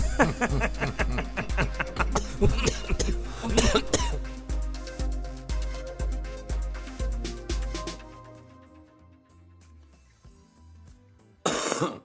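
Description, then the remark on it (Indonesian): A rhythmic musical intro with a steady thumping beat fades out, then a single loud cough bursts in right at the end. “2022 diawali dengan batuk barusan.”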